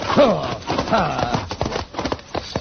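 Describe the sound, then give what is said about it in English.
A stagecoach team of horses gallops, hooves drumming in a rapid, uneven clatter with woody rattling. A voice calls out to the driver over the first second. “Driver, see if you can keep that team straight, will you? All right, alongside that wheel horse, Thunder.”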